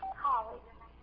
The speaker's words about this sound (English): That's never happened ever before in my life. Somebody trying to call me while I was preaching.